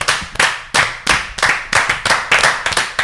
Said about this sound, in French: C'était un superbe applaudissement aussi. On l'a fait tous un peu en même temps, ouais, c'était assez stylé.